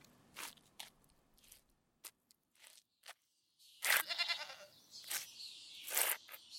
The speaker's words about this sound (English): Hey, sheep! Sheep, blessed mote thou be that ever thou wast sent down hither. Thou shalt this day die for me in the worship of the Holy Trinity.